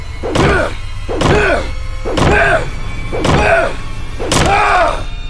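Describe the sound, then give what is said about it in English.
A bat slams violently against a hotel door five times in a steady rhythm, each blow a loud, heavy thud with a ringing, resonant tail, spaced about a second apart. “I stood against the wall with a kitchen knife, watching Ace bang violently on the door with his bat.”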